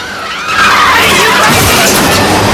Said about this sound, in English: It hits a bus and cars collide as they try to avoid the monster.